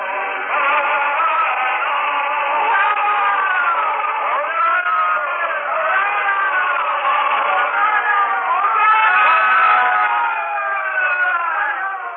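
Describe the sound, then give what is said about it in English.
A large crowd at the city gates cheers and cries out together as a man rides toward the gate on a donkey, many overlapping voices rising and falling in a dense, steady roar that stays loud for the whole stretch. “And from the cheering crowd suddenly are produced palm branches, and they are strewn in his path.”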